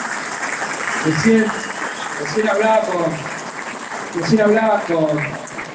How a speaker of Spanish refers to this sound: Un fuerte aplauso al intendente, un fuerte aplauso.